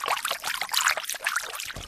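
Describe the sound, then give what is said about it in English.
A hand sloshes and swirls through the shallow, fairly fresh water of a bay at the Coastal Plains Research Farm, water for native Australian rice in the Northern Territory, with continuous splashing, trickling and gurgling bursts that rise and fall irregularly for a couple of seconds. “I'll just bring you a bit closer to the bay here. Let's put our hand in it.”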